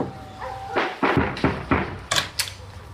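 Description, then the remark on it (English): Someone knocks firmly on a door, about six solid raps in loose pairs, each hit sharp and hollow against a quiet background. “Until two naked porn stars came knocking.”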